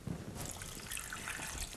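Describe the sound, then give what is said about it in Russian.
Water pours steadily into a pot of apples to make kissel, a continuous splashing trickle that starts abruptly and runs unbroken for a couple of seconds, with no voices. “И заливаем водой.”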